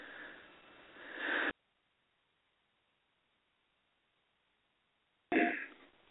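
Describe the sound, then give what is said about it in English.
Someone clears their throat with a rough, raspy burst, then a long stretch of silence before a second short, gravelly clearing sound. No talking. “Pardon me, guys, just had to clear my throat.”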